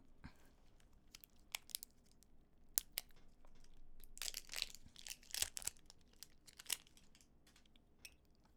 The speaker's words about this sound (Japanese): じゃあちょっと電池の周りのなんかフィルムを剥がしていきます。こういうの硬いよね。